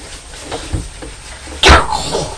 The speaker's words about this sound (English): You cough like Daddy coughs.